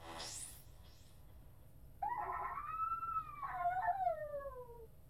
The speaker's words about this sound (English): A blood-curdling howl rings out in the dark.